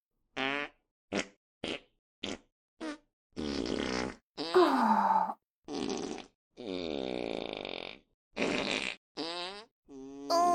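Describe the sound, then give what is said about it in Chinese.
A rapid series of about a dozen loud farts from someone eating their favorite food: short sputtering toots first, then longer, drawn-out buzzing ones with rising and falling pitch, with no talking. “吃着爱吃的食物肆意放屁，好舒服啊。”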